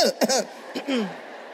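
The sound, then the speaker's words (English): A woman gives a deliberate, exaggerated cough: a quick pair of voiced bursts, then a third sliding, almost sung cough, with no other talking. “Sometimes when he doesn't, maybe he has forgotten, I cough in an unusual way.”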